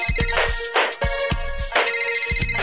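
A mobile phone ringtone plays a bright, electronic melody over a steady thumping beat, with sustained high tones and a rapid pulsing pattern toward the end. No one speaks.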